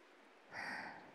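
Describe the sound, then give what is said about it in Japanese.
Soft, steady rain patters outside with a gentle hiss that swells slightly partway through, quiet and even with no voices. “雨、まだ降ってるね。”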